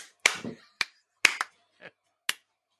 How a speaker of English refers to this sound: There's a fly here. I'm not clapping you.